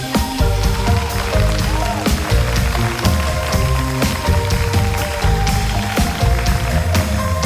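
Loud, sustained audience applause fills the whole stretch, a dense crackling wash of clapping with music and a steady beat continuing underneath.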